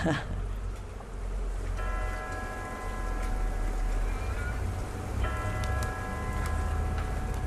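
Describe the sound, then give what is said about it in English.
A prison clock bell, which rings every hour, strikes twice to mark the hour. Each stroke is a bright, ringing tone that hangs and slowly fades, heard over a steady low rumble and hiss of background noise. “What's that bell? That's the prison bell. The clock that rings every hour.”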